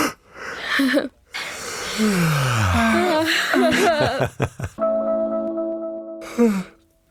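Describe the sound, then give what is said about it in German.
Hearty yawns: breathy inhales turning into long, groaning vocal slides that fall in pitch, a steady drawn-out hum near the end, and a final short sighing yawn. “Ich werde jetzt mal ganz herzhaft gähnen und dann könnt ihr auch noch mal herzhaft gähnen und alle, die zuhören, werden wahrscheinlich auch den Impuls haben zu gähnen.”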